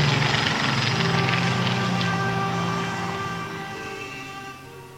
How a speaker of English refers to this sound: I can hear a plane.